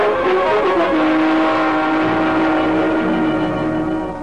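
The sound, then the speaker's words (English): A 1941 Buick sedan's engine roars loudly and steadily, its pitch climbing and shifting as it revs hard and speeds off toward the hills near North Hollywood, with no voices over the continuous rumble. “But he turned to the hills and pulled on the gas.”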